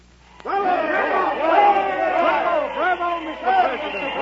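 crowd chatter

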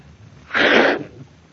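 sneeze

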